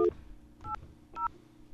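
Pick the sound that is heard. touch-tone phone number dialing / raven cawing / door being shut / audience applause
touch-tone phone number dialing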